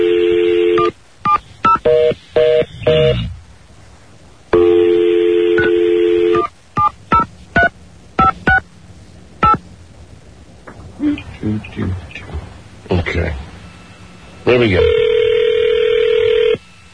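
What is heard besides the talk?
telephone being dialed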